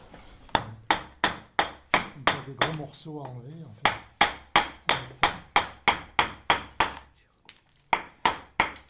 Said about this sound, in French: Soit on se sert du maillet. Le maillet, c'est le marteau du sculpteur. Mm-hmm. C'est comme un marteau, mais c'est tout en bois.